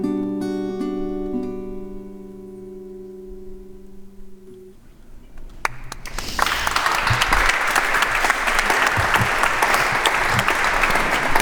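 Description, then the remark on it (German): A sustained held chord fades out, then a large audience bursts into loud, dense applause that continues steadily to the end, no voices standing out. “Geklatscht darf auch werden.”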